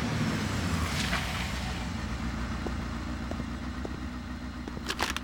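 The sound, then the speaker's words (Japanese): A mother's motorcycle arrives, its engine idling with a steady low rumble, running continuously throughout with slight fluctuations and a few faint clicks near the end. “あ、お母さんのバイクの音。”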